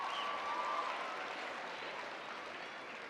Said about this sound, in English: You know, it's actually really great to see so many young men and young girls here. Give a round of applause for all the young people who came out today.